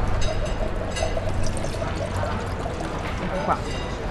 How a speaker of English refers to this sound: At the Vin Italy Wine Conference, sommeliers pour women-made wines in a temporary restaurant created by the Women of Wine Association.